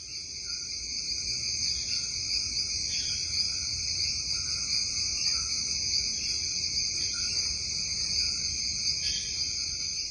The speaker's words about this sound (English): Oh, yes. It's wonderful. I mean, the noise is incredible. You feel as though you're in an enclosed space, and you can hear the birds up above a little bit, but it's mostly frogs and insects.